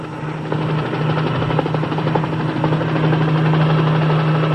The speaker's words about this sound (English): It's a helicopter. Hey, he's coming right this way. Uncle Charlie, look, it's Dad. He's gonna land slap dive on your lot.